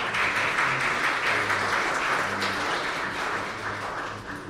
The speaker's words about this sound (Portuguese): Eu quero expressar a minha apreciação sincera a todo o comitê dentro a respeito dessa questão. Muito obrigada. Então, vamos aplaudir